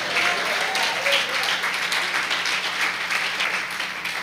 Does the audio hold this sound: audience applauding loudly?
yes